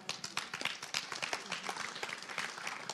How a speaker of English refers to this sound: And if you actually did the work that he did, you'd be clapping way louder. So, like, these carpets take a lot of work.